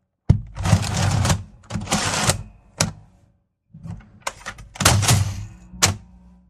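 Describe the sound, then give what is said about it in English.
A spring-loaded pneumatic cattle stunner, used to stun cows before butchering, fires repeatedly, each sharp mechanical clack followed by a loud hissing, rattling burst of air, with a short silent pause midway through the sequence. “All right, so apparently you got some kind of that thing they used to stun cows before they butcher them.”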